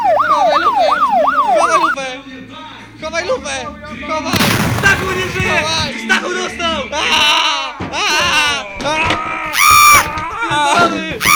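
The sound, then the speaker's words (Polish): A police siren wails in fast rising and falling sweeps for about two seconds, fairly loud, before giving way to a noisy jumble of clatter and excited voices talking over each other. “Słyszysz? Kurwa, wyje! Kurwa, czekaj, chowaj lufę!”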